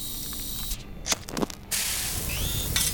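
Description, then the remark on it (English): Hot dogs sizzling in a pan: a steady, bright hiss broken by a few sharp crackles and pops midway, then the sizzle swells back to a constant, fairly loud hiss. No voices. “I must make hot dogs now.”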